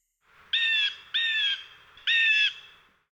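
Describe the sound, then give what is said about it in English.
A tick bird flies up at danger and screams a warning call to a rhinoceros: three loud, harsh, raspy squawks in quick succession, with a short gap before the last one and no voices. “When there is danger, the tick bird flies into the air, screaming a warning to the rhinoceros.”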